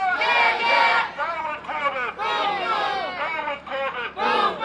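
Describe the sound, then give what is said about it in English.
A loud protest crowd halting traffic on South Broad Street at wintry dusk chants in unison call-and-response attacks on the governor's education record, shouting phrases in rhythmic bursts separated by short pauses, many voices blending into a dense, raised roar. “In the wintry dusk of South Broad Street, the group halted traffic as it chanted call-and-response attacks on the governor's education record.”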